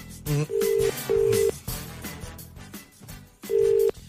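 Telephone ringing tone on an outgoing call: steady electronic tone bursts repeating with pauses between them, fairly loud and clear over a busy, music-like background.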